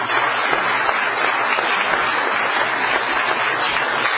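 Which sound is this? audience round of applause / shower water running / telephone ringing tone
audience round of applause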